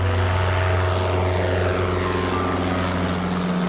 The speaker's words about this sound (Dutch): Een vliegtuigje bespuit de boomgaard met pesticiden terwijl de bijen er rondvliegen.